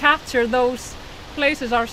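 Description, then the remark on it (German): A steady rushing roar of the Skoafoss waterfall fills the background, continuous and fairly loud, while a person speaks over it in two short bursts; dozens of tourists are photographing themselves with the waterfall behind them. “Dutzende Touristen versuchen, sich mit dem Wasserfall im Hintergrund zu fotografieren.”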